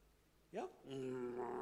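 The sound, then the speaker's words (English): A person imitates the growl that dogs, lions or hyenas make over meat: a short rising vocal burst, then a sustained, throaty, voiced growl held for about a second, fairly loud with no other sounds. “They growl, yeah?”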